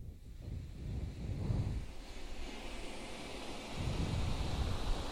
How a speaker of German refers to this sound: Meeresrauschen.